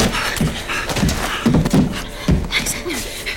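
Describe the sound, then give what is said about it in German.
A door opens with a few soft knocks and scrapes, while people pant and murmur in hushed, hurried voices throughout. “Achtung, da geht eine Tür auf.”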